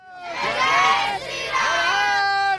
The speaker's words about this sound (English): Hail Lord Ram, a young group of Hindus shout near the site where a grand temple is being opened for one of Hinduism's biggest deities, Lord Ram, at the spot where they believe he was born.